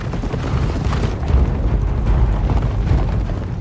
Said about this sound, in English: The castle drawbridge lowers, and she leads the Duke's army out on horseback.